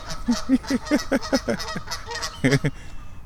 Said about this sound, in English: Let's go see what these geese are honking about. Hey, you honkers.